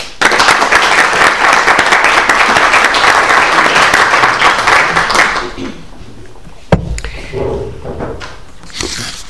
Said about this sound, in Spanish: que viene desde Barcelona expresamente para compartirnos su trabajo, que ha preparado puntillosamente, y pues yo pido un aplauso de bienvenida.